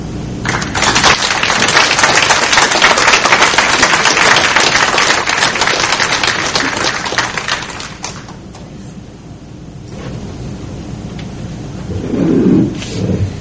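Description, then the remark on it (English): A crowd bursts into loud, sustained applause for the evening's speakers, lasting several seconds, then the clapping fades away, leaving quieter background noise and a brief low murmur near the end. “but this was just marvelous for me, and we just have another round of applause for all of our speakers.”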